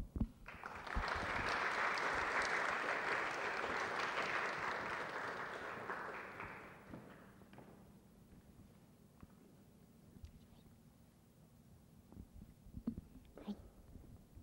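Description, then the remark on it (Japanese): A crowd at Megumi Church claps steadily for about six seconds to welcome a guest preacher, a dense wash of applause that then fades out, leaving a quiet low hum, a few faint knocks and shuffles. “今日の御言葉にも期待して、また歓迎の意味を込めて拍手でお迎えいたしましょう。”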